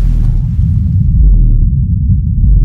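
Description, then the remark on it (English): A very deep, rumbling cassowary call, the lowest known bird call in the world, a continuous low throbbing boom that is loud yet sits almost below hearing, with no voices over it. “It's the lowest known bird call in the world, and it's barely audible to the human ear.”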